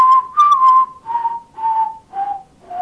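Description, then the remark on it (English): A theme song is whistled alone: a handful of clear, sustained notes in a steady rhythm, the melody drifting gradually lower in pitch with short gaps between phrases. “Oh my God, that theme song.”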